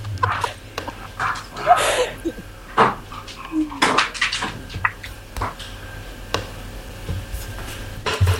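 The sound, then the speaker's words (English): A dog plays with scuffling and clattering, giving short growls, yips and whimpers in irregular bursts, with a low steady hum running underneath throughout. “I mean, sorry, was that a dog playing tug by any chance?”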